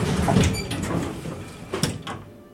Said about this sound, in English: The elevator goes up, and then at level 3, the doors open.